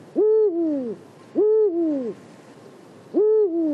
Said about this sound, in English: And when he got into his car that morning, he knew exactly what he was looking for: Eurasian eagle owls.